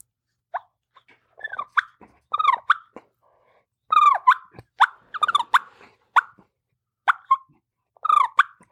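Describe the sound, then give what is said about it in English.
A turkey purr played on a mouth call: irregular bursts of short, sharp, reedy notes, some in quick clusters, fairly loud, with silent gaps between and no talking. “And you know, it sounds like my purr, which is obviously not, you're not good.”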